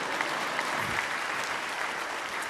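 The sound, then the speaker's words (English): An audience claps steadily during a sermon, applauding the mention of heaven. It is a dense, even wash of many hands from a large group at moderate volume, with no voices rising above it. “Could you clap a little more?”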